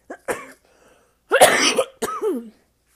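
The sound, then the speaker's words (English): A person coughs three times after choking: a short cough, then a loud, harsh, drawn-out hack, and a final rasping cough with a strained, throaty edge. No one speaks. “Also, I was choking, so if I still cough, that's why.”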